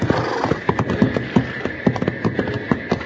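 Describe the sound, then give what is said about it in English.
A horse named Joker whinnies, upset by a train snorting at him, while its hooves clop in a steady, brisk rhythm, a string of sharp, fairly loud knocks over a constant background rumble. “Doggone it, you cut that out or I'll put you to bed without any hay.”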